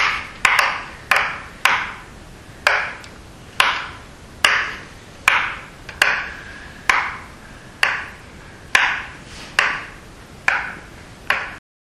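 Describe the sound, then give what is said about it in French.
A neighbour's high-heeled shoes clicking across the floor of the flat above in an apartment building, resonating through the ceiling: about sixteen sharp, ringing taps at an uneven walking pace, each with a short hollow decay, and no voices. “Dans son immeuble, la voisine marche avec des chaussures à talons qui résonne sur son plafond.”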